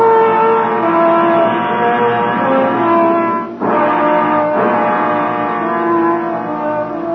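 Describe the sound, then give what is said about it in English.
A car engine hums steadily and loudly, with a brief dip partway through like a gear change before it picks back up and keeps driving to the south end of the city. “I left the office, got in the car, and drove to the south end of the city.”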